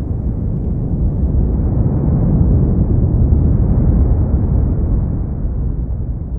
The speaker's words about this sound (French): Ou encore d'un tremblement de terre avant un tsunami ?